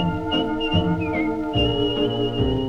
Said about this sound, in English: Down in the woodpile he keeps on going. You ask him why and he'll say, I'm whistling my worries away.